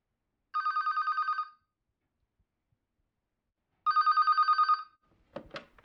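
Two bursts of a rapid, trilling telephone ring, each about a second long with a pause between, followed by a brief clatter like a handset being picked up.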